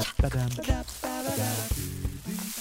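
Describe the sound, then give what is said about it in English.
A steady, broad rushing hiss of a waterfall at the old mystery cave fills the whole clip, while wavering, voice-like tones rise and fall loudly over it. “I think I hear a waterfall.”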